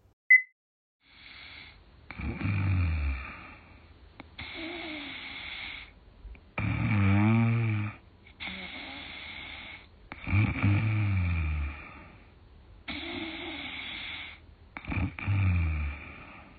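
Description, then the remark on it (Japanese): A person snoring in a steady rhythm, about seven loud, rasping breaths spaced a couple of seconds apart, each with a low rumbling buzz, with no talking; a snoring recording played for viewers of Countdown TV. “今回、新しいいびきをリリースすることになりました。”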